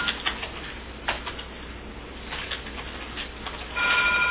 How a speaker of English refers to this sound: No, we're not answering the phone. I'm not going to do it.